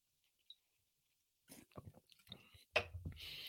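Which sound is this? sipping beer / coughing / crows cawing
sipping beer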